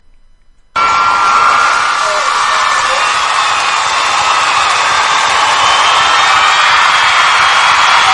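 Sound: audience clapping and cheering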